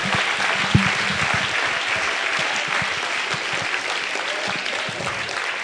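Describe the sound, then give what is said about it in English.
A crowd applauds steadily, a dense wash of many hands clapping at even loudness throughout, with no voices standing out. “Clap, give yourselves a hand.”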